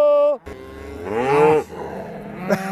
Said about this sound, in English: Come, cattle!